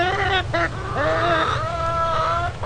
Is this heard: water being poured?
no